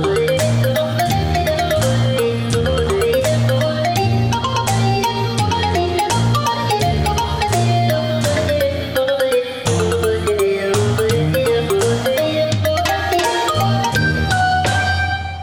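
A melodic mobile phone ringtone plays loud, a bright repeating tune over a steady bass pulse that continues without pause for about fifteen seconds, with no voices.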